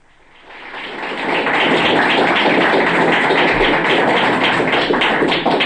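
A crowd breaks into applause that swells within the first half second, then holds as a dense, steady patter of many hands clapping, loud and even, with no voices heard.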